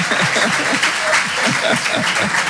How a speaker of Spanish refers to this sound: Señora, no se preocupe, si esto estamos en casa, no se preocupe. Un aplauso a la señora.